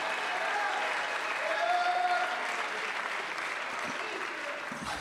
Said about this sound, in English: Somebody say praise the Lord. Let's clap our hands, lift our voice, and give God some praise and magnify him.